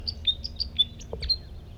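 Two male birds sing at once, their high, thin chirps and short whistled notes overlapping in a quick, jumbled series over a low rumbling background, with no voices.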